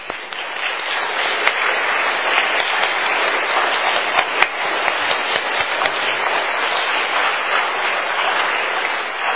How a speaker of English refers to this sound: Could we ask the moms just to stand for a moment and give them a round of applause? Would that be appropriate? You think we could do that?